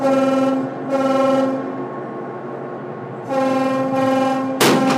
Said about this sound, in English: With the Coast Guard out of the way, the tugboat sounds its horn to let everyone know the shot is coming.